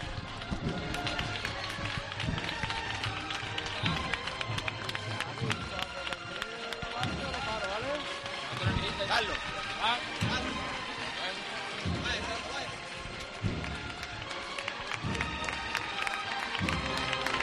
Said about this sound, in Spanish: Escuchamos también los aplausos de la gente que está encantada con que finalmente podamos disponer de un Lunes Santo con cofradías.